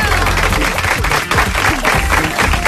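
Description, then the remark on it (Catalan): Steady applause in the studio of a RAC1 radio program as its team is introduced, a dense wash of many hands clapping loudly and continuously throughout, with no clear individual claps standing out. “Un aplaudiment.”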